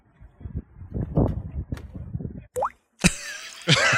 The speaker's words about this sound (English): So let me try that one more time. So listen to a little badoink at the end. Watch this front flip.